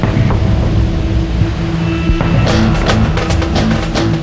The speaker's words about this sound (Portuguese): Um grandioso monumento da natureza que não se vê em nenhum cartão postal. A água despenca para tudo quanto é lado do paredão. Cachoeirão é o nome deste lugar escondido.